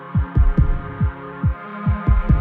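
Deep, booming recorded human heartbeat thumps, some falling in lub-dub pairs, pulse steadily over a sustained, humming synth drone, used in music production. No one speaks.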